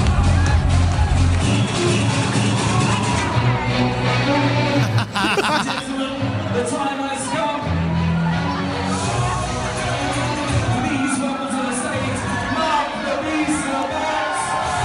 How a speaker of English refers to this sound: Listen to the crowd. I am obsessed that they are doing club PAs.